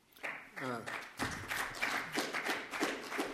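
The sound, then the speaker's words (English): An audience breaks into applause, a dense, steady patter of many hands clapping that holds for a few seconds, with a brief voice heard just before the clapping swells. “First outbreak of just applause.”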